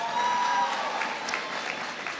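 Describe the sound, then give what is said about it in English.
A crowd applauds a superintendent of schools steadily, a dense wash of many hands clapping at once, holding an even loudness throughout with no voices standing out. “Give your superintendent a big round of applause.”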